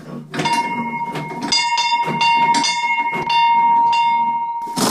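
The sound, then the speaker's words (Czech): A small village chapel bell, in a belfry renovated in 2014, rings loudly, its clapper striking again and again in a steady swinging rhythm while the bright metallic tone hums continuously underneath. “Já zkusím ten zvon, nalekne se někdo ve vsi tady?”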